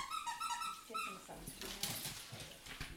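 A dog whimpers in a kitchen on a sunny June day, in thin, high, wavering whines for about a second, before the sound gives way to louder indistinct household noise and a murmur of voices.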